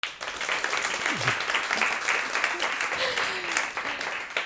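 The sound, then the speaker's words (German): A live audience at the Aurel-Füssli branch in the Europa-Allee bursts into steady, dense applause, many hands clapping continuously, with a few scattered voices calling out greetings over the clapping. “Liebes Publikum, wenn wir schnell Hallo sagen.”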